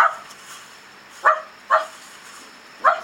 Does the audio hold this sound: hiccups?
no